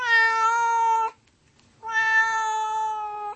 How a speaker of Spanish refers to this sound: Miau, miau. Este es el sonido que emite un gato checo. Maullar se dice miaukat.